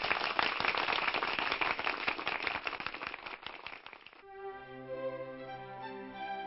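A loud round of applause for the cast of characters of the radio story The Kennel Caper, many hands clapping in a dense, crackling patter for about four seconds, then it cuts abruptly to sustained music.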